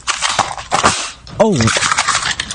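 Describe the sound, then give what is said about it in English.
A Christmas cracker is pulled apart hard after a countdown, with a rustle and a sharp bang, followed by a short voiced yelp or exclamation and more crinkling paper. “Oh, that had a better bang, didn't it, that one?”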